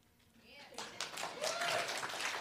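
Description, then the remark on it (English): Audience clapping starts faintly and quickly swells into steady, dense applause that holds loud to the end, with a brief rising cheer or whoop partway through. “Clap to her, not me.”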